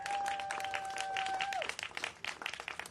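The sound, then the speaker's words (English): An audience gives a round of applause for a colleague, dense, steady clapping, while a high whistling tone sounds through the first part and then slides down and fades. “He's been working on it from the beginning, and I want to thank him, and we shall all give him a little round of applause for that.”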